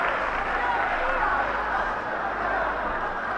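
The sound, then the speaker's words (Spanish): A large crowd applauds at the religious procession of María Santísima del Rocío through the village of El Rocío, as the bearers lift the float from the altar. The clapping is dense and steady and holds at an even, fairly loud level, with a murmur of voices blended into the din. “Es algo maravilloso que quizá en el sonido del aplauso llegue mucho mejor hasta ustedes.”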